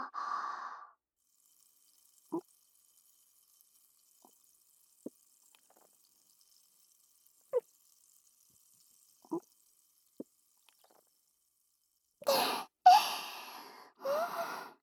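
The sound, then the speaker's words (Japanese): Several separate gulping swallows of champagne as two people drink it down, spaced a few seconds apart in near silence, then a burst of fizzy, hissing champagne pouring at the end. “ささ、お兄さん、シャンパンごっくんタイムも終わったし、”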